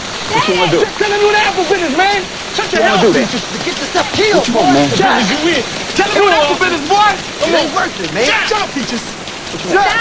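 heavy rain falling

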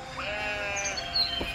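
sheep bleating

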